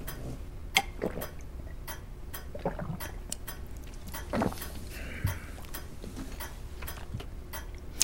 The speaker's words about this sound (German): Stopp. Nochmal ein Schluck Wasser.